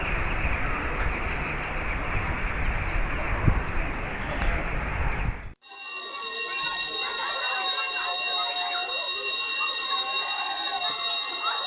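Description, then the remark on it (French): The school bell of Simon Bolivar school in la Paillade rings with a loud, steady electronic tone that holds without a break for several seconds, cutting in abruptly after a stretch of broad, hissing outdoor noise. “C'est la sonnerie de la meilleure école de la Paillade, Simon Bolivar.”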